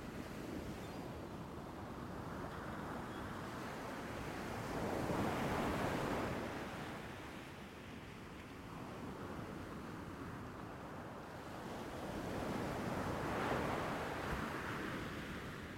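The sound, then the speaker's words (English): Gentle ocean waves roll in and break on the shore in slow, steady swells, two broad surges rising and fading over a constant soft wash of surf, with no voices. “As you listen to the gentle rhythm of the waves, begin to notice the rhythm of your breath.”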